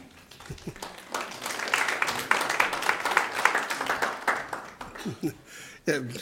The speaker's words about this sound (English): It's weird, isn't it? We never know. It's meditation. Are we supposed to clap? Go ahead. Give a nice clap.